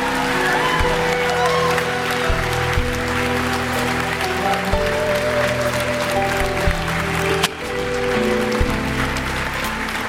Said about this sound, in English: Come on, church, let's clap and shout unto the Lord.